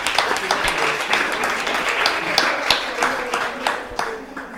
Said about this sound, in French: Bravo à vous, on vous applaudit. On applaudit pour le public.